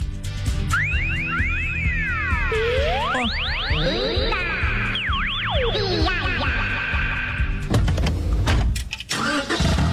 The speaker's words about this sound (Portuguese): E o som de um carro novo ligando. Esse momento a gente nunca esquece, né?